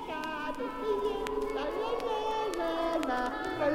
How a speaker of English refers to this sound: Soon they could see the people and the buildings, and soon they could hear the sounds of the earth. Kids playing,